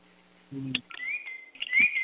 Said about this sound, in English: Who that whistle? Oh no, whistle.